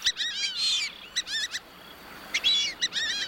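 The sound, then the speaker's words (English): Repeated high-pitched whistling calls of a fulvous whistling duck, a lanky brown bird, coming in quick bursts of squeaky, two-note whistles, clear over a faint background hiss. “The fulvous whistling duck is a lanky brown bird with a high-pitched call.”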